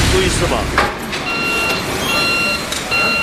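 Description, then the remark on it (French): Bulldozers rumble in the open air, leveling the last fields to make way for a new logistics park, while a high, steady reversing alarm beeps over the broad engine noise, with faint voices in the background. “Des bulldozers terrassent les derniers champs pour faire place à un nouveau parc logistique”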